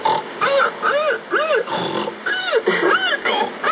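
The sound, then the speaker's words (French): A person imitates a pig, making a quick series of about eight nasal oinks and squeals, fairly loud, with no other talking. “Non, tu nous parlais de cochon. Ah, c'est plus l'onomatopée.”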